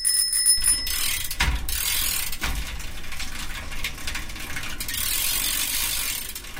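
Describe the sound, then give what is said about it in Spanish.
A bicycle rolls by with a steady ratcheting, clicking hum of wheels and a rattling trailer, its bell ringing brightly at the start, with a couple of heavier thumps along the way. “En la puerta de la consulta del doctor encontraron a Tomás, que pasaba por allí con su bicicleta y su remolque.”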